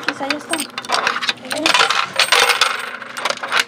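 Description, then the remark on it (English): Coins clink and rattle as they drop into a vending machine to buy a treat for children, a quick series of bright metallic jingles and taps over a few seconds, with faint voices murmuring in the background. “There's one more stop before getting back in the car. The vending machine for a treat.”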